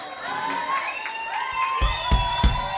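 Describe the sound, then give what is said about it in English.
A large crowd in a big auditorium where a singer is performing cheers and shouts continuously with sustained, overlapping voices, heard over a phone call, while a few loud claps or thumps punch through near the end as the audience erupts in excitement. “The applause, the... That sound, that's the best drug I've ever had.”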